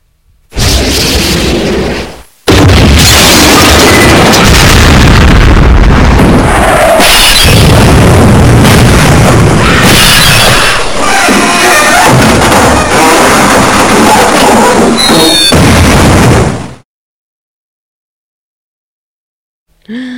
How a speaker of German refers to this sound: Die Böller gingen. Oh je.